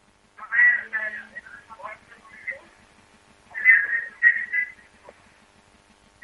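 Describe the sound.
Tinny, muffled television sound carries over a phone line: indistinct voices rise and fall in uneven bursts, narrow and distant, with a faint steady hum beneath.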